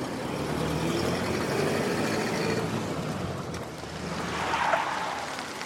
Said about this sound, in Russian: Машина останавливается.